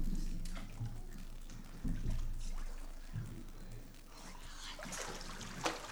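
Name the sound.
water splashing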